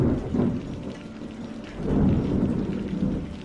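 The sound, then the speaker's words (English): A thunderstorm at St. Helen's Fort lighthouse in the Solent, with steady rain hissing throughout and low, rolling thunder swelling twice, first briefly near the start and then more heavily in the second half. “Unfortunately, the storm returned while Ethel's parents were away”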